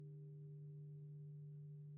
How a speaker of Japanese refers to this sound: あ、定夜の鐘